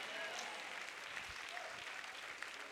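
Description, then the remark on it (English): A crowd claps steadily, a dense, continuous wash of many hands with no clear rhythm, fairly loud throughout with a few sharper claps poking out. “You better clap your hands and be identified.”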